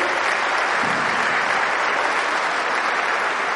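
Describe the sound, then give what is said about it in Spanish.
Sustained audience applause for the men in the audience who have stood up: a dense, steady wash of many hands clapping at an even loudness for several seconds, with no voices rising above it. “Eso es, mire, les vamos a dar un aplauso, mire, vean, eso está muy bien.”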